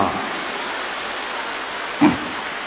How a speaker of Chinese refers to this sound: 根据你们的掌声来判断，现在有很多人已经开悟了啊。